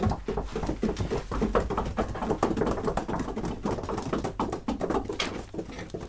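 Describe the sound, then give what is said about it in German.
Rapid, uneven woodpecker pecking fills the scene, a dense run of sharp wooden taps mixed with faint bird calls, steady throughout. “Alle Tiere des Waldes waren eingeladen. Die Spechte.”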